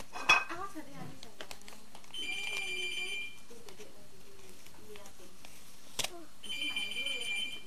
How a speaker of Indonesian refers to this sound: Ini sendok.